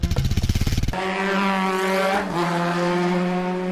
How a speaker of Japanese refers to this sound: バイクで颯爽と走り去る